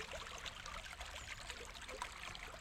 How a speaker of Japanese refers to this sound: 自然に近い川ですから、川の流れの音以外にもいろんな音が聞こえてくるんです。こういった音は F 分の1揺らぎという揺らぎを待っているんです。